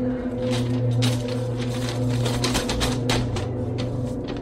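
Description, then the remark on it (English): A paper bag crinkles and crunches in quick, irregular bursts, fairly loud, over a steady low hum in the background, as a man pulls the bag out of his pocket. “Then I heard a crushing sound of a paper bag.”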